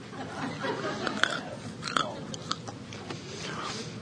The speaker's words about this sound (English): I did that to demonstrate that I can chew crunchy things on this side of my mouth. Because for several years, I was not able to do that.